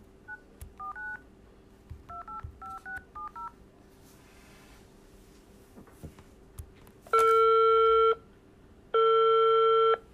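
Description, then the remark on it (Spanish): A rapid string of short, clipped keypad beeps, about ten in quick bursts, as a TV quiz-show contestant dials a friend using a phone-a-friend lifeline, followed by two long, louder ringing tones as the call connects. “Claro, pásenle el teléfono. ¿Y a quién quiere llamar? A un amigo. Llámelo.”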